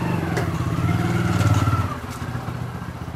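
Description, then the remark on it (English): A woman arrives on a motorbike: the engine rumbles, revving with a rising, throbbing drone that peaks midway, then settles to a lower idle as the bike pulls up and slows. “I drop in on the nerve centre of one of the most energetic groups, headed by a cheerful, determined woman in a brilliant blue and green tunic over bright green pants, who arrives on a motorbike.”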